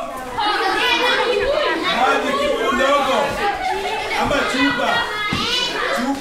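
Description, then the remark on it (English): A dense, lively din of children's voices inside Project Elimu, a ballet school in Nairobi with concrete walls and a tin roof, with overlapping high-pitched chatter, shrieks and bursts of laughter, loud and continuous throughout. “Inside, it's a festival of noise.”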